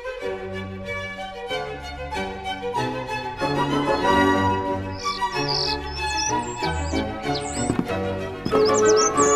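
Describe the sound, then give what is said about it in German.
A starling chirps and warbles in quick, high squeaky bursts over steady instrumental music, the bird calls joining partway through and standing out clearly above the melody. “Er war von dem Vogel vor allem auch fasziniert, weil Stare unglaubliche Gesangskünstler sind”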